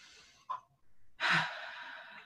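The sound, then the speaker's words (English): A deep breath drawn in during a guided breathing exercise, airy, building into a loud, rushing inhale that lasts about a second after a brief softer breath. No one speaks. “Roll them back. And take in a deep breath.”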